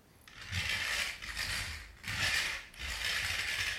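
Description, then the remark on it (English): A toy car rolls across a hard floor in several pushes, its wheels giving off a steady raspy, ratcheting whir that swells and fades with each stroke. No one speaks. “You gonna push the car along the floor?”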